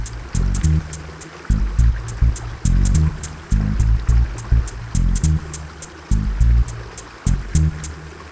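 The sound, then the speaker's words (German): A river's steady rushing water flows with a continuous broad wash of sound. Irregular low thumping bursts and faint sharp clicks keep surfacing over the flow. “Ich schließe die Augen und höre dem Fluss zu.”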